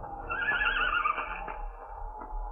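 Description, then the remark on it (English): A mare hiding in a gully on a ranch whinnies loudly as a storm approaches, a single quavering neigh that trails off, with a low, steady rumble of wind behind it. “Oh, so there you are. Hiding in a gully, huh? Horses are supposed to have horse sense.”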